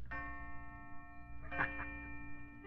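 A chiming tone from a watch rings out after a little lever on its side is pulled out, sustaining steadily throughout, with a brighter struck note partway through. It's moderately loud, over a low background hum, with no one talking.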